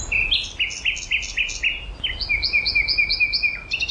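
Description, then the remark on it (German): A nightingale sings alone in rapid repeated phrases, bright whistled notes in two series of quick rhythmic strophes, clear over a faint low background rumble. “Man mag das gern glauben, wenn man Dutzende im Frühsommer im Treptower Park singen hört.”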